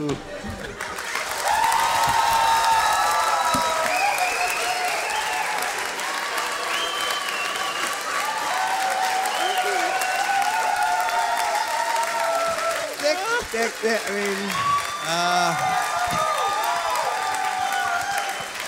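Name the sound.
clapping applause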